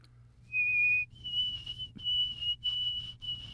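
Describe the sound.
A person whistles an imitation of a white-throated sparrow's song: one clear, steady note, then a slightly higher pitch held in a run of repeated, wavering notes, over a faint low hum.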